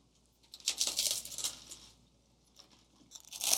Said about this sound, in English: I tried this in the kitchen earlier, but I think you need to hear the crunch from this.